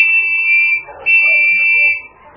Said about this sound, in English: when he heard the two blasts made by Preston's gold whistle